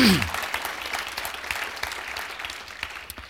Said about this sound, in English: I wonder if we could give him and his team a round of applause.